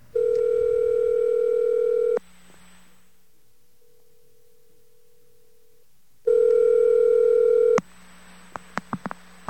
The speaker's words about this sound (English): Okay, I got the second dial tone.